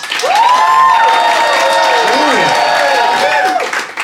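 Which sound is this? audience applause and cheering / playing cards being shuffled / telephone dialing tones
audience applause and cheering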